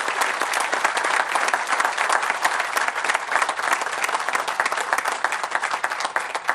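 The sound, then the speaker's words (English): A crowd claps steadily for several seconds, a dense, sustained wash of many overlapping hand claps at an even loudness with no voices rising above it. “Let's give a big round of applause so they see how much we believe.”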